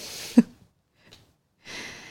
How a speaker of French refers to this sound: Et bâille si tu en ressens le besoin. Elle bâille.